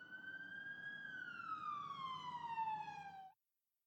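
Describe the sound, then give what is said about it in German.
An ambulance siren wails loudly, holding a high tone before sliding steadily lower, with a low traffic rumble underneath, then cuts off abruptly. The ambulance is being sent to a helpless person in a city park. “Ich schicke sofort den Rettungswagen dorthin.”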